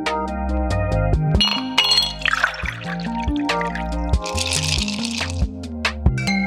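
Glasses clink together in a toast, a few bright chinks scattered over a steady musical backdrop, with some splashy, liquid-like sounds in between.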